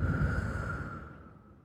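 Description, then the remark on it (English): A long, slow breath out into the mic, a soft airy rush that gradually fades over a couple of seconds, the exhale of a box-breathing cycle of breathing in for four, holding for four, breathing out for four and holding for four. No talking. “So you breathe in four, hold for four, breathe out four, hold for four.”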